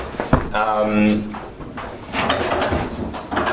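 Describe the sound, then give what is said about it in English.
A door is unlocked and opened so someone waiting outside can come in: a sharp click, then a drawn-out creaking groan of the hinges, followed by softer knocks and shuffling as muffled voices carry on in the room. “The door's open.”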